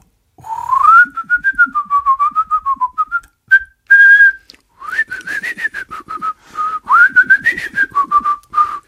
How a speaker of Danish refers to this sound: Sikke et samarbejde her, hva'? Nej, det var en fløjteduet.